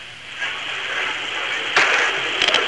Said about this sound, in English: It now is about 200 yards away from me, and I believe you ought to be able to hear that, the gunfire now that's coming with it.